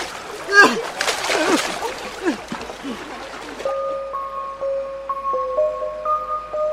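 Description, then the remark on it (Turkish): A loud, messy splash as a husband and wife plunge into water when the leg of the arbor they are in is cut, churning and sloshing for a few seconds before fading into calm, with a soft melodic tone continuing afterward. “Dışarıda şuraşı arkadaşları etrafı yeşilliklerle kapalı çardağın ayağını kestiler ve karı koca suyun içine düştü.”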